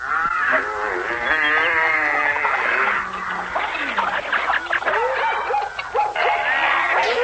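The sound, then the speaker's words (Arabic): A noisy chorus of many animals calling at once, barks, yips and lowing moos overlapping continuously and loudly, like a crowd of livestock and dogs moving together, as male and female animals of every kind enter Noah's ark through its door. “الله قال لنوح اجمع أهل بيتك وكل ذكر وأنثى من الحيوانات، ادخل معهم من باب الباخرة. اسمع لهم.”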